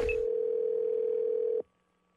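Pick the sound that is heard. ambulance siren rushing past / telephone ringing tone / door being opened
telephone ringing tone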